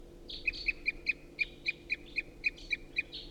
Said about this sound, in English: And there's still a lot of crossbill activity in the trees right above. Nothing's coming down or getting interested in the decoys, however. A lot of song, continuing loud toops by a wild bird.